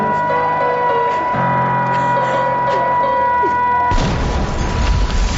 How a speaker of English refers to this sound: What's that alarm I hear? Mom seems scared.